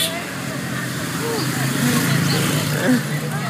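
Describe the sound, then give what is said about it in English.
A truck rumbles past, a steady low engine drone swelling slightly midway, with indistinct voices and street bustle murmuring underneath. “As that truck went by, that guy was blowing you kisses,”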